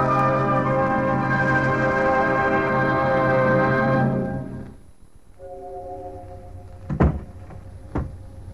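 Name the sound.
door closing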